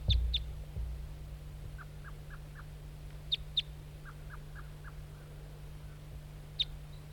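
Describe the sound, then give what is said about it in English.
A lone bright red male bird perched in a spruce tree near a net calls repeatedly: sharp, high chip notes in quick pairs, plus two short runs of four lower, evenly spaced toop notes, over a steady low hum. “It's a lone red male, bright red, alone, and that's him. And he's perched in a spruce tree here near the net.”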